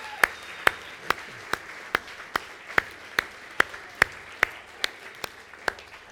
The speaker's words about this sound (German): Yes, und während ihr kommt, dürft ihr dieser wunderbaren …, unserer Jugendband, mal einen riesen Applaus geben hier. Juhu!